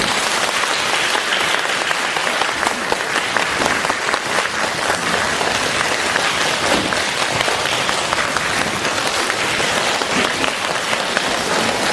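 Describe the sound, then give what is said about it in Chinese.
A large audience applauds loudly and steadily for the full duration to welcome Lu Junhong to give a talk, dense overlapping claps forming a continuous roar with no speech over it. “现在尊敬的卢台长将为我们慈悲开示，让我们用最热烈的掌声恭请我们尊敬的卢军红台长。”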